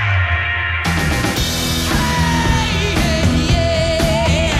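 A singer lets out a long, loud yell over a full rock band, the voice held and wavering above driving guitars and drums that kick in sharply after a brief quieter opening.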